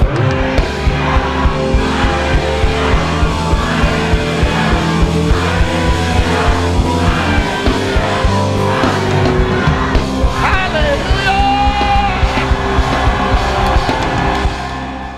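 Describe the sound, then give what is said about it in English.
A large audience shouts hallelujah over and over, answering a call to shout it seven times, many voices overlapping in a loud, continuous roar, with sustained musical tones running underneath. “He says, shout seven hallelujah.”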